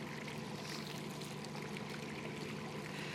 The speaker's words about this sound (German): Heute ist der Stein ein Brunnen. Wasser fließt heraus.